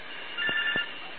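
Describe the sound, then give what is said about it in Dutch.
A telephone rings with a bright, warbling electronic trill in a short burst as someone calls in during a radio broadcast, clear, with faint background noise and no one talking. “En dan heb ik nog even tussendoor telefoon, één momentje.”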